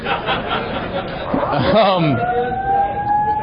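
A steady, high electronic alarm tone starts partway through and holds at an even pitch, sounding over a busy murmur of crowd chatter and laughter that fills the whole stretch.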